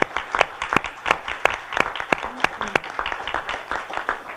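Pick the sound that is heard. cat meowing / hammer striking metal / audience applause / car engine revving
audience applause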